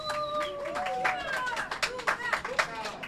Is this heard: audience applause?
yes